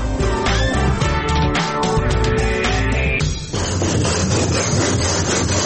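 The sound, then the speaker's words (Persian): Steady, rhythmic rasping of a handsaw cutting through wood in a carpentry workshop, loud and continuous with repeated back-and-forth strokes, briefly pausing before resuming with a rougher, denser grind. No one speaks. “چقدر وقت میشه که کار میکنین در بخش نجوری؟”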